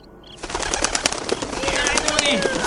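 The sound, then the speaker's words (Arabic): A flock of birds takes flight in a dense, rapid flurry of flapping wings, fairly loud, with a few faint chirps and calls woven through. “فعلا طارت الطيور وجاءت مع كتكوت لكي تساعد أرنوب”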